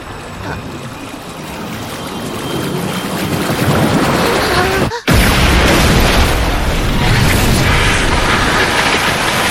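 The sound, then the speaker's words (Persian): A magical water spell, an explosive stream, unleashes a loud, sustained rush of churning water that surges and roars, cut by a sharp, sudden break midway before the torrent crashes back in full force and keeps raging. “ای روح لطیف آب و شاهزاده نهرهایی که بر روی زمین جریان داری، با قدرت درونی پنهان خود همه چیز را بشوی. جریان انفجاری.”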